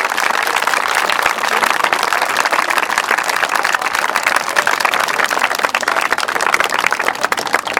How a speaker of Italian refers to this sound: Il primo motivo è stato quello di ricordare e onorare la memoria di Maria Lali Zulian, per la quale chiedo adesso un applauso grande da parte di tutti noi.